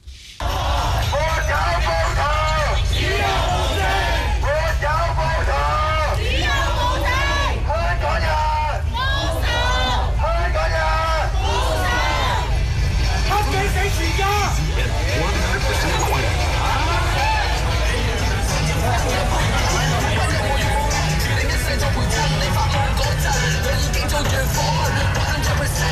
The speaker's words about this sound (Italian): Queste sono alcune delle grida dei manifestanti che assieme alla mia collega croata Barbara Matic ci abbiamo incontrato proprio il 26 di gennaio nel quartiere di Mong Kok a Hong Kong. Uno degli slogan è stato proprio Hong Kong libero,